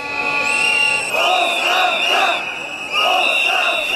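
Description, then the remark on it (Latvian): Several hundred supporters of Boyko Borisov protest in central Sofia, Bulgaria, against the ex-premier's detention, shouting together in loud, rhythmic bursts, chanting in repeated waves with short pauses between them, over a steady high-pitched tone. “Tikmēr vairāki simti Borisova atbalstītāju Sofijas centrā protestēja pret ekspremjera aizturēšanu.”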